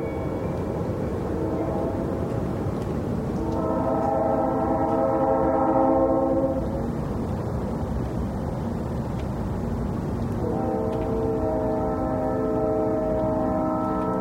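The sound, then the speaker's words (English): Train horns from tracks about 2 miles downhill sound at midnight in two long, sustained blasts of layered tones, separated by a pause, over a steady low rumble of background noise, faint and distant. “I live about 2 miles uphill from some train tracks, and the midnight air bends and twists the train horns into an eccentric symphony.”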